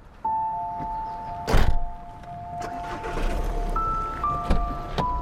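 Someone settles into a car after returning from the Kaiserkrone in Saxon Switzerland: a steady chime tone beeps, a door thunks shut near the start, then soft interior shuffling and a few more clicks and thuds follow, with no talking.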